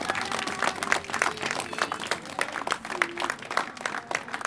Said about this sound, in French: Merci encore aux résidentes et résidents des Tilleuls. On peut les applaudir de nous avoir accueillis.